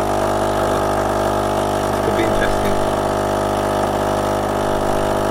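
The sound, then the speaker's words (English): A coffee machine pours out coffee after pouring water onto the beans, its pump giving a steady, loud mechanical hum with a broad hiss over it, running without pause for the whole stretch. “And now it's going to pour out the coffee.”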